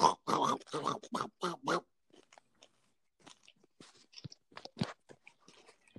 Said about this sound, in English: Now I'm going to eat some Doritos. No, it's all right. Crunch loud. Hey, crunch in a beat like.